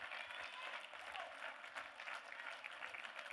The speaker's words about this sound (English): Matter of fact, men, why don't you join me? I'm standing. Why don't you stand? Why don't we just clap our hands and thank God for the women